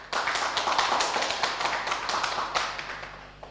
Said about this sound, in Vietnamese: Thì tất cả hãy dành một tràng vỗ tay thật lớn để tán dương chung.